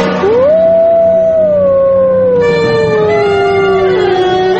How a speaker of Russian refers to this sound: Волки воют обычно в темное время суток. Хорошо этот вой слышен в тихие, безветренные ночи.